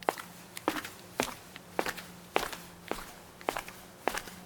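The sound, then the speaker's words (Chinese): Slow, steady footsteps approaching a small wooden cabin at a playground, about eight distinct crunchy steps evenly spaced, each a sharp thud over a quiet background with a faint low hum and no voices. “我跳下秋千，勇敢的、慢慢的接近小木屋。”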